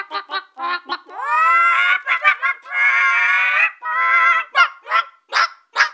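A hen in a radio studio, having laid her first egg today, clucks loudly, a run of short sharp clucks broken by two long drawn-out squawking calls, then more quick clucks, with no one talking.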